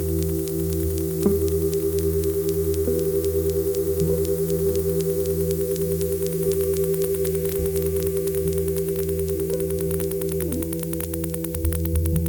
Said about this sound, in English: That's all fine, but for our purposes, dial to a quiet section of the AM band and use this detector to sniff for sources of AC magnetic fields and dirty electricity. The sound of loud static hissing and crackling is unmistakable.